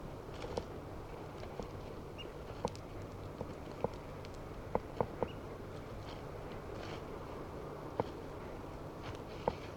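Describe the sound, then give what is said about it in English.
Faint, irregular crunching footsteps outdoors as someone walks to a bird cage, a scattered series of soft clicks over a steady low background hum, with no one talking. “Start recording and walking to the cage.”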